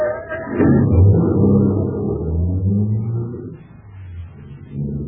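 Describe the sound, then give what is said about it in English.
A car engine turns over and settles into a steady low rumble, its pitch rising and shifting as the vehicle pulls away, with no voices. “Start the car, Blake.”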